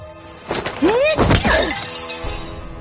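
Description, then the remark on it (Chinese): A sharp, loud ceramic shatter as a porcelain pillow is smashed over a night intruder's head in a bedroom: a crisp crack followed by ringing, tinkling fragments scattering for about a second before fading into quiet. “砰的一声脆响从卧室里传来，夜行人满头是血地躺在了地上。范闲手里拿着半碎的瓷枕，心有余悸地看着地下的这个家伙”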